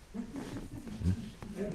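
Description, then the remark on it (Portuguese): A dog growls and grumbles continuously, with a louder, deeper bark-like outburst in the middle and low, droning vocal sounds throughout. “Esse cachorro está aí, dando palpite.”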